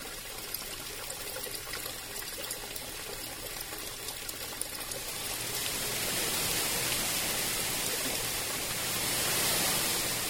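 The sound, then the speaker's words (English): Steady rushing water from the waterfall beneath the Falling Water house, a broad hiss of falling water that thickens and grows louder partway through, continuing without pause and with no voices. “Anywhere you are in the house, you can hear it.”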